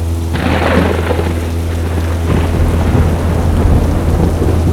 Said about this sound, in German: Plötzlich geraten wir in ein Gewitter. Und das Flugzeug beginnt gefährlich zu schaukeln.